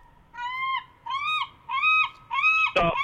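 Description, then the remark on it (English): Seagulls call four times in a row, loud, each a drawn-out nasal wail in an even rhythm, ending with a brief sharp knock. Nobody speaks. “Or honestly, if we played some seagull sounds right now, would that freak you out?”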